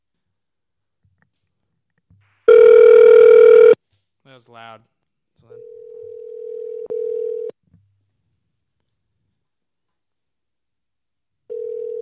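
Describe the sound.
A loud, harsh electronic beep, then a brief voice, followed by steady ringback tones of an outgoing phone call on speakerphone, one long ring, a pause, and another ring starting.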